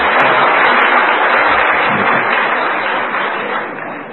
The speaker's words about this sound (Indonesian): Tepuk tangan dulu tuh, berarti.